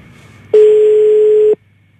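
A telephone ringing tone sounds once, a steady, fairly loud low beep lasting about a second, then cuts off abruptly into near silence. No one speaks.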